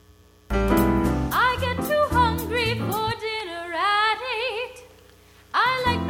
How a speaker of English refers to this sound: So you can hear just a little bit of subtle reverb added to that.